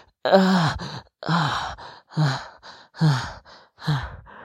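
Heavy, rapid breathing close to the mic: about five loud, voiced exhalations, roughly one per second, each a breathy sigh with a bit of vocal tone. No talking.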